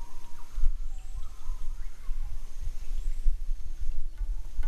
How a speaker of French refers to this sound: Tout est si silencieux ici. Seul le clapotis de nos canots et les oiseaux résonnent ici.